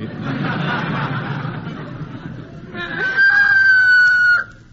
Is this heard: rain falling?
no